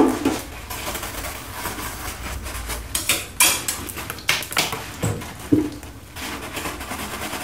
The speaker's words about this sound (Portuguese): Assim que a Água Liz acabou de falar, Dona Jacira pegou os dois pratinhos e começou a lavá-los com escova, água e sabão.